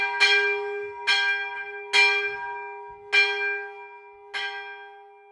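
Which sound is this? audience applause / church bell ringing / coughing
church bell ringing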